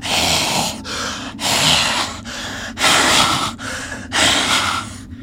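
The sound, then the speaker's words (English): A voice imitates raspy breathing just outside the door of a stump, rhythmic harsh inhales and exhales repeating about five times, fairly loud with brief pauses between each breath. “you hear just outside the door of the stump, you hear raspy breathing.”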